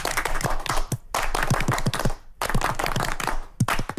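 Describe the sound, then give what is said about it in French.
A group claps together in a dense, fast burst of Russian-style applause, done to congratulate a host, the sharp claps blending into a steady roar, with brief gaps where the clapping pauses and then resumes. “Eh bien, quand vous voulez féliciter votre hôte qui vous a bien reçu, eh bien, il y a un applaudissement en Russie qui se fait,”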